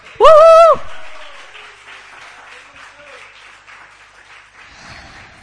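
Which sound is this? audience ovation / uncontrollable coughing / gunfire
audience ovation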